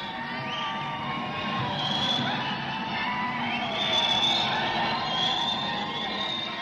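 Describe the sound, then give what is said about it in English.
A protest crowd of about 8,000 gay men and lesbians screams and yells continuously under marble columns, a dense roar of many voices with rising shouts and whoops swelling throughout, loud and sustained with no pauses. “Under the marble columns, there are now 8,000 gay men and lesbians screaming.”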